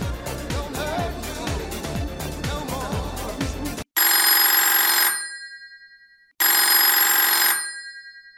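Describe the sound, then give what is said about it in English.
A telephone bell rings twice, loud, each ring a sustained metallic trill that fades out, with a pause between; upbeat rhythmic music plays beforehand and cuts off abruptly. “Wake up, Greg, says my mother. It's Jane on the phone.”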